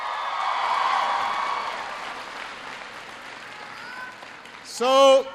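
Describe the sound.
An audience claps steadily for several seconds, a dense wash of hand claps that slowly thins and fades before a man's voice begins speaking at the end.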